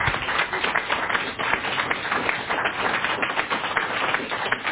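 Steady audience applause fills the whole stretch, a dense wash of many hands clapping at an even, moderately loud level with no voices breaking through.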